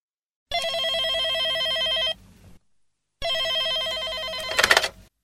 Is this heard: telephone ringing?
yes